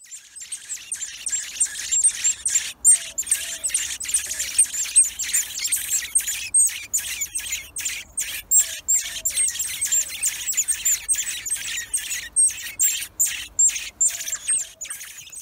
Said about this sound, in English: And even in the background now, you'll be hearing the sparrows chirping away.